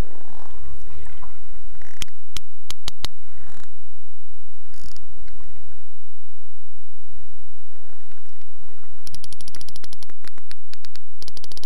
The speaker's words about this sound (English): The sperm whale makes this clicking sound by pushing air through the space in its big hollow head.